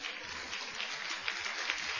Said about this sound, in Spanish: Entonces den un aplauso al predicador.